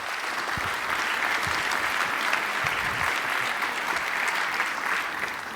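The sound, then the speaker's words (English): An audience at a conference talk on hacking with the TPM applauds steadily to welcome the speaker, a dense wash of clapping that stays loud and even throughout with no talking over it. “Give a big applause, please.”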